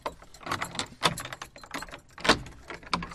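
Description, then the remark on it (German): A large set of keys jangles and clinks, with sharp metallic rattles and a few heavier clunks as a lock is worked and the door of the Sankt Spiriti church is unlocked with a large key. “Großen Schlüssel gibt's.”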